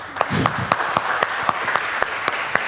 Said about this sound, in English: You really just volunteered to see all 3 days of lightning talks? You deserve a round of applause.